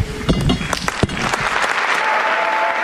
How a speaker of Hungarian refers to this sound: A szokásos módon nagy tapsviharral zárul a mai audiencia.